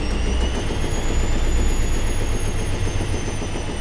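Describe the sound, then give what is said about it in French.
A washing machine loaded with laundry runs steadily, with a constant low mechanical rumble and a thin high whine from the motor, fairly loud, with no voices. “Mettait le linge dans la machine.”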